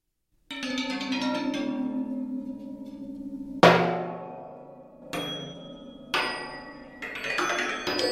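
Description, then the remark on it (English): Old brass telephone bells mounted on the outside rim of a wheel-like instrument, tuned to microtonal pitches, ring out alone, struck about five times; each bright metallic hit lingers with a shimmering, slightly dissonant sustain before the next. “And the outside rim has old brass telephone bells that are tuned to kind of microtonal frequencies.”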